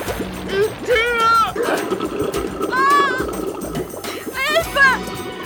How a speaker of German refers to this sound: Verzweifelt hämmerten die beiden Frauen gegen die Scheiben der Taxi. Durch alle Ritzen schoss das Wasser in nagelfeinen Strahlen in die Kabine des Wagens.